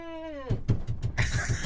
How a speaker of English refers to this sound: Yeah, you're going to, that loud claps right there. It's a lot of that.